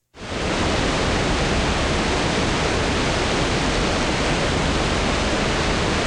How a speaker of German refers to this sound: Wie in Island auch, schießen dort Geysire aus dem Boden.